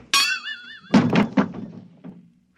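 A high, wavering tone rings out, then three heavy hammer blows land in quick succession, followed by a softer lone thud. The blows are dull and solid.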